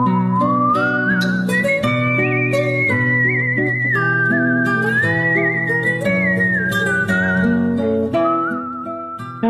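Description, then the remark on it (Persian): A clear, sustained whistled melody by a musician who also plays violin and kamancheh glides and bends over a rich instrumental accompaniment with steady low chords, continuous, with no talking. “یکی از این دست هنرمندانه که بدون هیچ محدودیتی نفسش رو تبدیل به موسیقی میکنه.”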